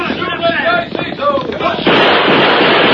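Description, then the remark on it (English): Loud gunfire erupts after a stretch of raised voices in a Lone Ranger story, as the Lone Ranger fires a few shots, a harsh, steady blast of noise that fills the last second and more without letup. “I'll fire a few shots to make them think I'm trying to stand them off.”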